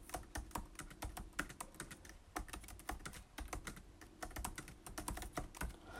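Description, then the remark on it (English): Continuous typing on the soft keyboard of a 16-inch MacBook Pro laptop, with quick, irregular muted key taps and no voices. “Okay, so it's a really soft keyboard to type on.”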